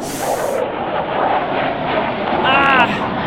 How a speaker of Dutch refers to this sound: oeh, er komt een straaljager, jongens. Oeh, die maakt heel veel herrie.